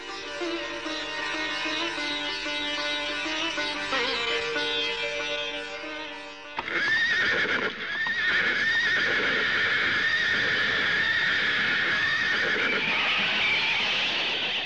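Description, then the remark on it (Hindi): A horse whinnies loudly, followed by clattering hoofbeats and more neighing over a busy, noisy background, with no talking. “अपना घोड़ा पीछे ले जाओ, मुझे बहुत जल्दी कहीं पहुंचना है।”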